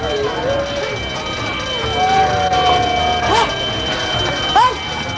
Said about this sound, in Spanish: ¡Se está quemando! ¡Apaguen esa sirena que me va a enloquecer!